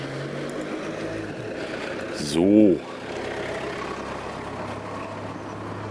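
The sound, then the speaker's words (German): A car engine hums steadily in the background throughout, a low, constant rumble at moderate distance, while a voice briefly speaks over it partway through. “Da hinten ist auf jeden Fall ein Auto.”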